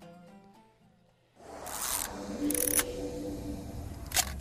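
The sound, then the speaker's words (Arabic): A short musical phrase gives way to three loud camera shutter clicks, irregularly spaced, ringing out over a steady sustained tone. “العكاسة طبعا أول شيء كاميرا”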